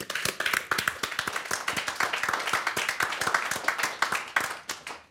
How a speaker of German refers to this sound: Also kurz und gut, ein Applaus für die Techniker und Technikerinnen.